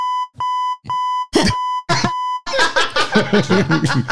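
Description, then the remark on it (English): A steady electronic beep tone repeats several times in a quick, even rhythm with short clicks between, then gives way to loud, jumbled voices and laughter. “Beep, beep, beep, beep, beep. Beep, beep.”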